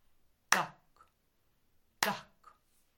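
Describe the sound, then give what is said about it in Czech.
Two sharp, loud hand claps land about one and a half seconds apart in a slow, steady beat, clapping the rhythm of quarter notes in a music lesson. A faint softer tap follows each clap, with silence in between. “To jsou ty, které se tleskají takhle.”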